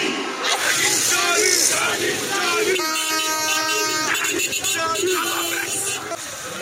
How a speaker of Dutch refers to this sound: Dat je vooral die mensenmassa's op straat zag. Schreeuwend eigenlijk dat ze blij waren met de val van het regime.